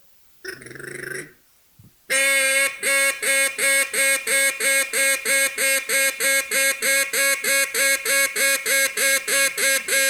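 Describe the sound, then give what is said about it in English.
A duck call blown to imitate a duck: one short raspy quack, a pause, then a loud, rapid, steady string of harsh quacks that keeps going without a break, as heard in Stuttgart. No talking. “I'm saying if you want ducks on your grill, get one of my duck calls because they sound like a duck.”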